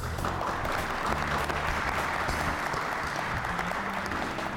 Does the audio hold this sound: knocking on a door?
no